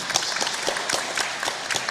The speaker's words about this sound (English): Yeah, that's beautiful. Round of applause. Thank you.